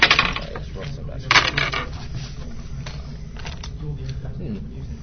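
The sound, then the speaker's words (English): Dice clatter across a table in two quick rattling bursts, followed by a few faint ticks as they settle, over a low steady background hum. “Roll some dice.”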